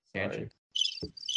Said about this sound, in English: I love how the cricket sounds like a squeaky bike wheel. It sounds like a bird. Those are crickets.